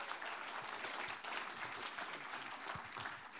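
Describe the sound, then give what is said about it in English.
A crowd at a Christian church gathering applauds steadily as a speaker is welcomed up, a dense, even patter of many hands clapping that holds at a constant level throughout, with no voices rising above it. “Thought I'd just take my time getting up, you get a bigger clap.”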